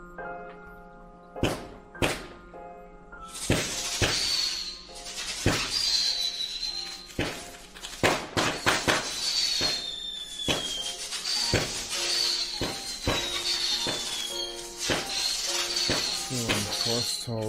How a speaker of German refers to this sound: Während des Gaming-Streams vom 28. August konnte man hören, wie Hater draußen hupten und dann Böller anzündeten. Achtung, Böller. Also, gleich kracht's mal nicht.